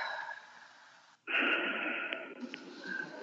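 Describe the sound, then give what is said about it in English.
A slow, breathy inhale followed after a brief pause by a longer, louder exhale during a guided breathing-and-release exercise, with no talking. “And then breathing in and releasing from everywhere.”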